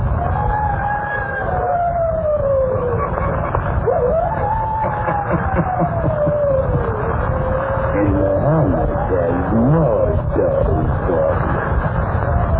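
Eerie, drawn-out howling rises and falls in long sliding wails over a constant band of low rumble and hiss, continuing without pause and growing more wavering toward the end.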